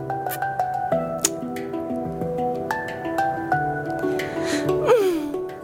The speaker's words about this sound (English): Und im Hintergrund hören wir wieder hier … with ….